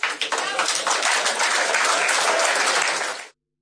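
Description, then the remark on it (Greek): A short burst of audience applause for a statement in a political speech about the PASOK party and movement, a dense crackle of many hands clapping steadily for about three seconds before stopping abruptly. “Χειροκρότησαν λίγο η αλήθεια στο τέλος, γιατί όταν λες κάτι πάρα πολύ καλό που σε εκφράζει και μέσα σε 5 λέξεις διατυπώνει μια φιλοσοφία ενός κινήματος, ενός κόμματος, καλά κάνουν και το χειροκροτούν.”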